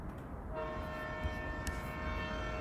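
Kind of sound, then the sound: vehicle, train passing with horn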